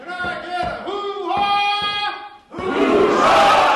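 A master carver gives a single loud, drawn-out shouted call in several strong bursts to energize a crowd in Wrangell for a restoration project; after a short pause the large crowd erupts in a sustained, roaring cheer that grows louder to the end.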